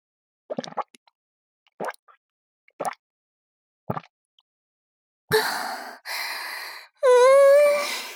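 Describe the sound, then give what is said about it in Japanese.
Four slow, separate gulps of someone drinking alcohol after a toast, followed by long breathy exhales that end in a satisfied, voiced 'ahh'. Fairly quiet, with no talking. “とりあえず、乾杯しましょうよ。はい、乾杯。”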